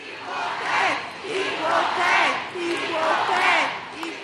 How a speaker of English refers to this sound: Canyon of Heroes, Lower Manhattan. The confetti and ticker tape rained down today on the U.S. women's national team, and so did a by now familiar cheer.